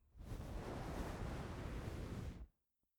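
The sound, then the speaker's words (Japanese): A hot towel is laid over the face during a shaving service, making a steady rustle of damp cloth for about two seconds before it settles into quiet, followed by one faint tap. “お顔にホットタオル、失礼しますね。”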